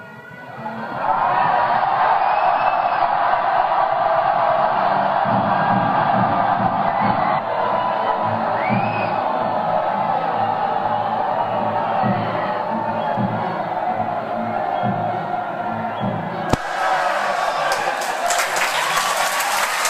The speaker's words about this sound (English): I'm going to invite the orchestra to play that section of the glorification of the chosen victim. I suggest that we start screaming during those 11 repeated chords, and we'll see what happens.